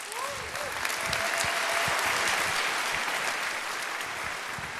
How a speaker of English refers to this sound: and welcome him with a big round of applause.